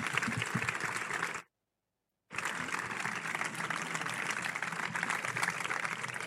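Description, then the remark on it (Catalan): Sustained audience applause in Sitges for the news that the Sitges libraries team will light the 21 morterets of Sant Bartomeu, a dense crackle of many hands clapping, cut by a sudden second of silence before the clapping resumes just as loud and steady. “Un aplaudiment.”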